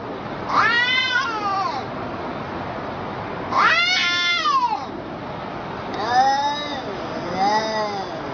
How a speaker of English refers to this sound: a film festival of internet cat videos, like like this one, The Angry Talking Cat